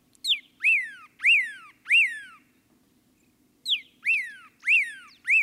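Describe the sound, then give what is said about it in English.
A pyrrhuloxia sings from atop a yucca in a dry arroyo: loud, clear slurred whistles, each note rising then sweeping down, delivered in two quick bursts of four, with a short pause between them over faint low hum. “And there's a pyraloxia, singing from atop a yucca.”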